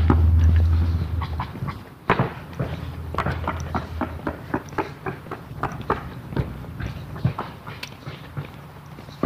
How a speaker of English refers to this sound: Those aren't woodpeckers, by the way. There's a roofer's working on this guy's roof over here.